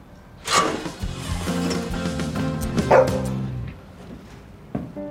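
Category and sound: animal, dog barking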